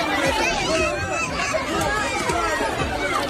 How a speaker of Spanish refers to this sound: Así es como sigue sonando la Franja de Gaza, los gritos, el llanto de los niños pidiendo desesperadamente un poco de comida.